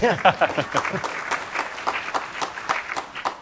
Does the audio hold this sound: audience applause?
yes